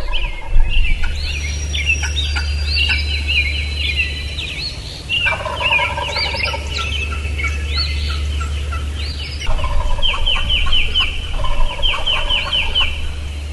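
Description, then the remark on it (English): Imitated hen turkey calls, mimicking a hen that lives in the area, come in several runs of rapid, repeated yelping notes, clear over a steady low background rumble, with no one talking. “there's a hen turkey that lives there that calls just like that, so I'm going to call like her”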